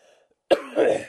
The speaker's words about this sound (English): excuse me, you're not supposed to cough on the air.